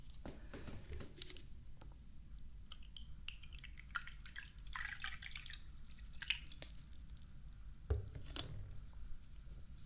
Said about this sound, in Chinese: 喝杯水再走。进来吧，随便坐。我去给你倒水。